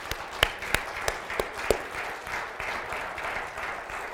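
A crowd applauds steadily for about four seconds. A few sharp, distinct claps stand out over the first couple of seconds, then it settles into an even, moderate wash of clapping with no voices.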